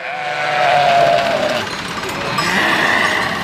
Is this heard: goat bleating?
yes